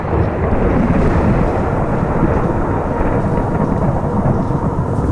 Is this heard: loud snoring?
no